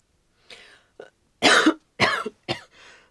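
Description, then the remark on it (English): A run of harsh, loud coughs in quick succession from a person who is ill, several bursts spread over a few seconds, with no talking. “And you've got a terrible cough.”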